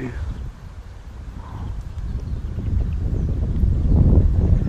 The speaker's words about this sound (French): Non, bouge pas, il y a du vent.